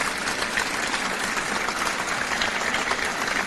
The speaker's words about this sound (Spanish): Pido para él un merecido aplauso.